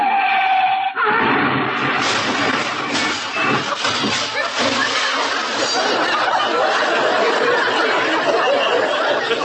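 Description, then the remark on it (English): A long, loud burst of harsh, noisy screeching as a car's brakes lock and its tires skid fills the scene for several seconds after a brief voice at the start. “We was sitting, was we sitting here in the back seat when we put on the brakes?”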